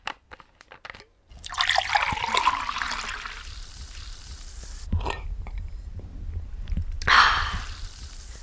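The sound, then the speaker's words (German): Water is poured with a bright splashing rush, followed by quieter handling and a few soft sips and swallows of water, with a short liquid burst near the end. “Ich brauche jetzt erstmal einen Schluck Wasser.”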